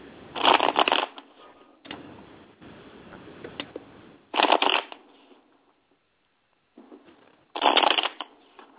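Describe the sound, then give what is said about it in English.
A deck of cards being shuffled: three loud, crisp riffle bursts spaced a few seconds apart, with softer rustling and shuffling in between and no voices. “No, I'm shuffling right now for him.”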